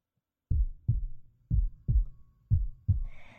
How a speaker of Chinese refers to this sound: 终于，你在心跳慢了以后，呼吸减弱，全都招供了，却没有换来怜悯。